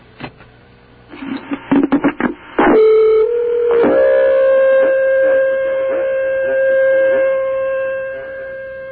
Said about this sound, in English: Now, you're dialing the phone there. We are getting through to the insomnia hotline.